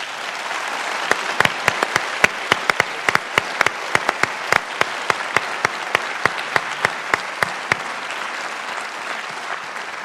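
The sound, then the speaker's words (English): An audience applauds the students steadily for about ten seconds, a dense wash of clapping with sharp individual claps popping out on top. It holds at an even, fairly loud level throughout, with no voices. “I'd like to hear, before we say goodbye to the governor, a nice round of applause for the students today.”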